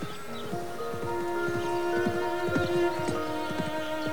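Hooves of approaching horses clip-clop in a steady, rhythmic gait at moderate volume, with a sustained tonal hum like soft music held underneath. The horses are a white horse ridden by a young woman and Rochester's horse, appearing in the distance. No one speaks.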